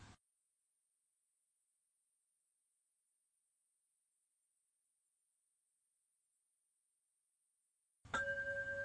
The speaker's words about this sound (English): In a moment I'll ring the bell to end the period of Zazen.